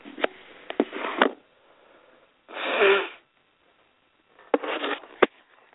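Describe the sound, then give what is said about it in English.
Someone blows their nose in three separate noisy bursts with short quiet gaps between them. The middle blow is a smooth, steady honk, while the others sound rougher and more sputtering. “I'm going to ask for your patience again, guys, as I blow my nose here.”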